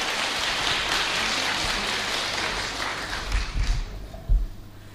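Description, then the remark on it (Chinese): A dense wash of audience applause, many hands clapping steadily at moderate loudness for about three seconds, then thinning into scattered, uneven claps before fading. “所以咧，你啲掌声要大啲，婆婆年纪大听唔到。”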